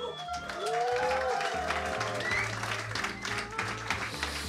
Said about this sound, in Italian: Un applauso questo a tutti coloro che non si sono lanciati sull'autostrada